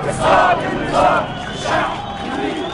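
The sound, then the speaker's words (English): A large protest crowd chants the slogan "Ash-Sha'b yurid isqat an-nizam" in unison against the Mubarak regime, loud massed voices rising in rhythmic, repeated surges roughly every second, with a steady roar of the crowd underneath. “The second big protest was January 28th”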